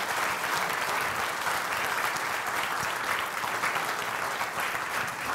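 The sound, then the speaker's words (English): A church audience applauds steadily to welcome new members into the church, a dense, even wash of many hands clapping that holds at a constant level from start to finish, with no voices standing out. “And we just want to welcome them, church family, with a little bit of applause.”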